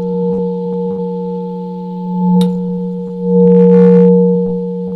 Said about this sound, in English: So first of all, here's the low note. High note as well. Listen to both at the same time.